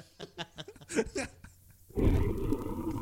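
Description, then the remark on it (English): A few short, throaty vocal bursts give way to a loud, sustained lion roar played from a soundboard that rumbles low and rough through the last second, filling the sound. “Was that our lion that went off there?”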